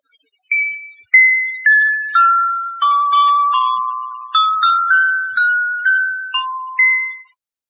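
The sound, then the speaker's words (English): Orchestra bells (glockenspiel) in a Columbia recording of instrumental music ring out a bright, unaccompanied melody of about a dozen struck notes, each chiming clearly and fading with a short shimmer before the next, played at a steady, moderate pace. “Note the ringing clarity of the orchestra bells.”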